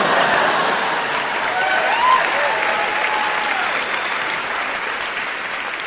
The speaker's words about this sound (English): And that was Massachusetts. And we applaud it.